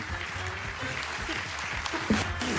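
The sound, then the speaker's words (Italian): A crowd claps steadily throughout, a dense, even wash of many hands with no voices standing out, holding a fairly constant loudness from start to finish. The applause is for Carlo Monni. “Qui facciamo un grandissimo applauso, naturalmente.”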